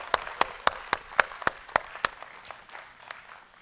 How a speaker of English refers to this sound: Those big hand claps to Jesus. Woo!